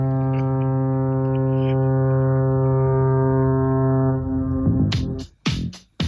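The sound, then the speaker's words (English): The P&O ship Fair Star gives one long, deep, steady horn honk lasting about four seconds, loud and rich in overtones, then breaks into a few short, harsh noisy bursts. “And hey, just for old time's sake, one last time, please, Fair Star, just for me, honk if you're horny.”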